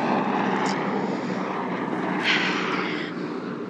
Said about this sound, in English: And then, there's a helicopter passing. Let's see, is it news? Military? That's a news helicopter.